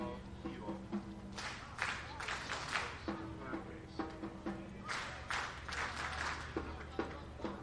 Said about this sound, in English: Clapping coming from the Mets dugout.